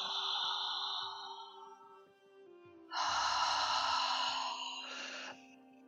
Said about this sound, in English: And you can be as loud as you want for this one. We're going to inhale through our mouth, open mouth breathing like this. So just think of, just a relaxed mouth. And you're just going to go like the ocean. You're going to create this sound.